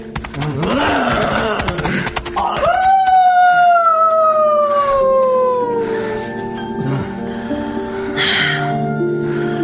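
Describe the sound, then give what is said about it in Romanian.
A wolf howls in one long, loud, sustained note that slowly slides downward, after a brief rising cry, with a noisy, rumbling background throughout. “Galop prin câmpie sau urlete de lupt.”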